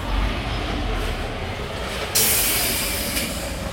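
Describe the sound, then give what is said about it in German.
A steady low rumble of a train, then a sudden loud, bright hiss of steam bursts in just past the halfway point and keeps blowing to the end, with no one speaking. “Weil der lässt natürlich richtig Dampf ab.”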